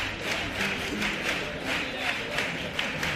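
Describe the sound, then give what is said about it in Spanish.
An audience at a stage performance with an orchestra applauds steadily, a dense wash of many hands clapping at an even, moderate level that swells slightly in waves and continues throughout without letting up. “Con los aplausos de este público.”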